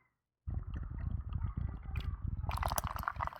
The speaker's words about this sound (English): Pour it into the glass now.